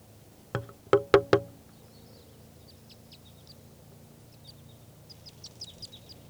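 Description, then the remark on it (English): A wild lone male bird, perched in a tree about 30 yards from a net, gives four loud, sharp calls in quick succession, followed by faint, high twittering chirps over a low steady rumble. “That was a wild bird.”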